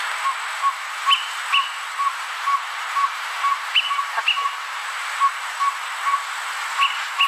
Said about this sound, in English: And I happen to pull up the greater peewee, just so you know. And I this is what the greater peewee sounds like, so everyone can have an idea of what we're trying to talk about here.